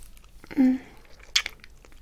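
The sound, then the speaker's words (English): A soft, low hummed moan gives way to a single short, wet lip smack, a quiet mouth sound over faint background hiss with no words spoken. “Don't stop kissing me.”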